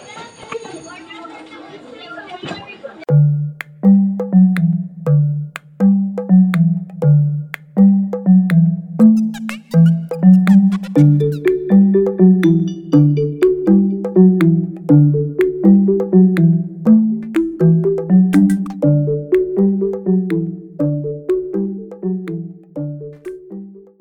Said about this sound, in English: You heard it here, folks, in Ponce Middle School, and that's the bell.